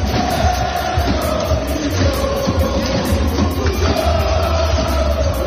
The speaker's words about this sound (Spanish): Al grito de Sergio Rico, toda la hinchada del club parisino daba su apoyo al sevillano.